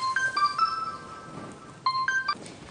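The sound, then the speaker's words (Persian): A newly bought mobile phone rings, its ringtone playing a bright electronic melody of short tonal beeps, pausing briefly before the tune repeats. It is clear, with no talking. “آقا خلیل خریده در دسترسش باشه. خیلی خوب، حالا جواب آقا خلیل رو بدی که ناراحت نشه.”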